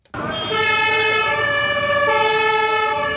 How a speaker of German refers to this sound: Polizeisirenen waren von heute Morgen bis zum Nachmittag immer wieder zu hören in Kiel. Mehr als 600 Einsatzkräfte vom Bundes- und Landespolizei waren an der Übung beteiligt, 200 in Uniform, die übrigen spielten die Fußballfans.